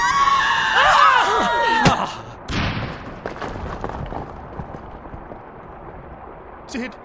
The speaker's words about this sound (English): I'm so sorry, my friends, but that scream, it echoed so horribly in my skull,